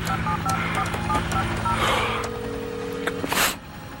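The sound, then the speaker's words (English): Patrick Bateman, sitting on the floor in front of his desk, keys a phone number into a telephone: a string of short, evenly paced touch-tone beeps, ending with a sharp burst of noise, all over a steady low hum. “Crouching in front of his desk, he reaches for the telephone and sits on the floor.”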